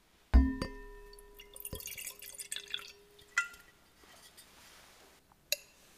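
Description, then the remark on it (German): A 2023 Ollas Riesling from an organic winery at Lake Balaton is poured into a glass: a ringing clink of glass, a few seconds of bubbly splashing liquid, then two more light clinks against the glass. No one speaks. “Und den schenke ich mir erstmal ins Glas.”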